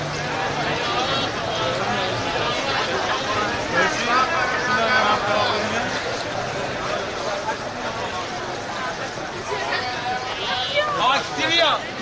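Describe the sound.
Dense crowd bustle in late morning around the Grand Bazaar of Tehran, Iran, as people press around merchants' stalls of clothing and goods, with overlapping voices chattering steadily throughout and occasional footsteps and knocks mixed into the constant hubbub.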